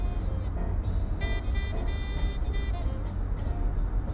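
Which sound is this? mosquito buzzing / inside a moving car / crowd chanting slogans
inside a moving car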